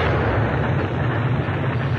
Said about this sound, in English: That nuclear explosion.